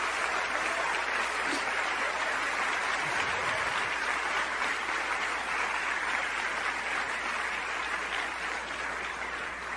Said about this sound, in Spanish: ¿No le dan un aplauso a Dios? Gracias, Señor.